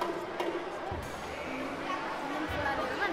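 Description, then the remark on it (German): The Berlin Philharmonie concert hall, its lower tiers fully occupied by schoolchildren aged 6 to 13, filled with the steady, cheerful babble of many children's voices chattering at once, a dense, reverberant crowd murmur with no single voice standing out. “So klingt die Berliner Philharmonie, wenn die unteren Ränge komplett von Schülern eingenommen werden.”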